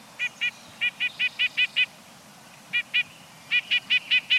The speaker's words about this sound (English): Have you noticed a sleek, stub-tailed bird pecking its way down a tree trunk? It's probably a nuthatch.